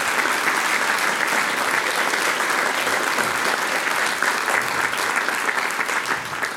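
Sustained audience applause, a dense, steady wash of many hands clapping at even loudness for several seconds, with no voices standing out above it.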